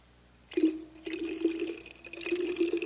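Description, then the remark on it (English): After a brief quiet moment, water pours steadily from a jug into a glass with a continuous splashing gurgle that keeps going to the end, clear with no one talking. “So with me tonight, metaphorically and figuratively, would you take your glass in your hand, grab your jug.”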